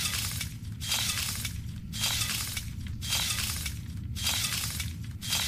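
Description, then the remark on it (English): Glass drops and shatters repeatedly, a loud, bright crashing burst about once a second, with brief dips between the breaks and no voices. “I will demonstrate how to drop something.”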